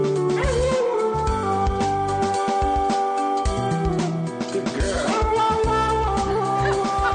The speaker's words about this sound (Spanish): Está con el iPad. El vídeo se ve al propietario con el iPad y el perro al lado, aullando y entonando.